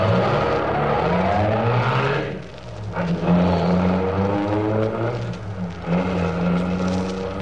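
car engine accelerating away

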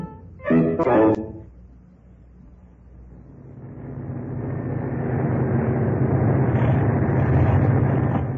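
aircraft engine failing

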